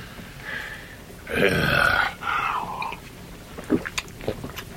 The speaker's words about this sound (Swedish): Först syntes han aktsam med klunkarna i ängslan att verken kunde börja på nytt. Men därpå drack han med tillförsikt tills stävan var tömd.